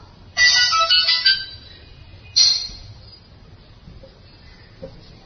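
A cell phone ringtone chimes a short bright melody, then a second burst follows after a pause and fades out, with quiet murmuring in the background, during a religious satsang discourse.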